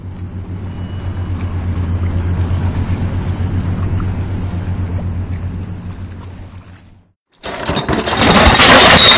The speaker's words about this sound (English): You heard the sounds of bridge traffic